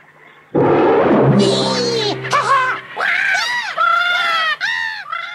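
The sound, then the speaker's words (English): A sudden loud burst of startled birds at a lake, several overlapping squawking and shrieking calls rising and falling, continuing in agitated bursts for several seconds. “And he runs past the lake and frightens all the birds.”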